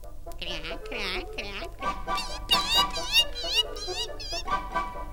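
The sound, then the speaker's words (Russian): A noisy poultry yard: many birds honk, squawk and cluck over one another in a continuous commotion that grows busier partway through, as two duck families fight over a fish head, with no one speaking. “Вскоре добрались и до птичьего двора. Ну и шум тут стоял! Ну и гам!”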